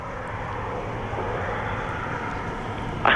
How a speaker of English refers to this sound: There's a lot of cars passing by here. At times, it's hard to hear.